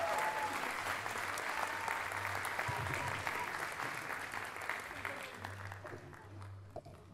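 A crowd applauds steadily for several seconds, a dense wash of clapping that holds at an even level and then begins to thin out slightly toward the end, with faint voices mixed underneath.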